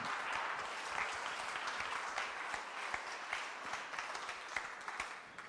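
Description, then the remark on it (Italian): Steady applause from an audience, a dense wash of many hands clapping with occasional sharper individual claps standing out, sustained evenly throughout without talking. “Forte questo applauso.”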